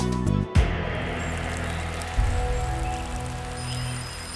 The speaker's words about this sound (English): A spring rain was falling when Jim Tucker got a phone call about his neighbor, Peter Ivers.